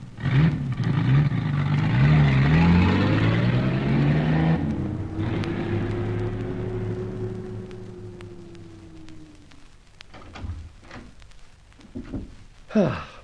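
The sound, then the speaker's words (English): A car engine revs and pulls away as the car is driven on, its steady drone rising in pitch, then fading, leaving a few faint clicks and knocks near the end. “Better drive the car on.”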